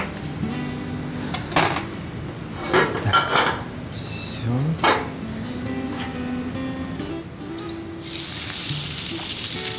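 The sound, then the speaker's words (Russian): Kitchen clatter of pans and utensils, then a sudden loud sizzle as fish goes into a second hot frying pan to fry for a couple of minutes, hissing steadily. “Сковородочку мы сюда закидываем, в другую.”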